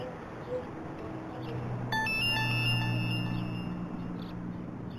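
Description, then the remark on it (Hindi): A phone rings with a bright electronic trill that starts partway through and fades out over a couple of seconds, above a steady low hum and murmur. “तुम्हारा फोन है?”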